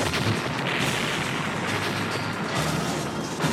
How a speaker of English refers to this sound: They're setting off bombs.